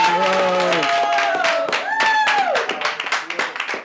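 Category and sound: crowd, studio audience applause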